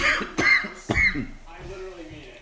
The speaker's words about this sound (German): Ja, Chat, ich huste die ganze Zeit.